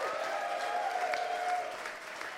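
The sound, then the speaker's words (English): A crowd at a festival applauds steadily, a dense wash of many hands clapping at once, sustained and fairly loud throughout with no one speaking over it. “And before we go, one final note, we'd just like to say a massive round of applause for and a big thank you”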